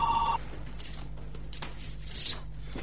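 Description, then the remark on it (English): A home telephone rings once, a short electronic trill at the very start that cuts off quickly, leaving a low hum and faint rustling noise. “The phone is driving me crazy.”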